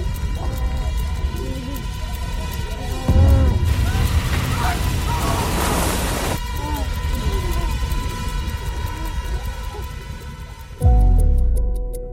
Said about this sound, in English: Sounds like these pocket watch ticks really start to blur the line between music and sound design.